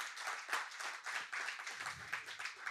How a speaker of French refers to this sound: Et s'il y en a qui le croient, est-ce qu'on peut applaudir à l'avance ce que Dieu va accomplir cette année?